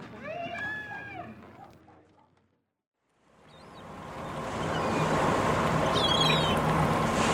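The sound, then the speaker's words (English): A cargo boat meant for ferrying goods along the river system moves slowly along a river: after a brief lull, a steady low engine rumble and rushing water wash swell up and hold, with faint high chirps above. “is there any particular reason why this boat is traveling so slowly?”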